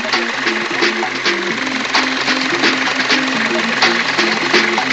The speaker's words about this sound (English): The jacks are whirring, and the guide wheels go down.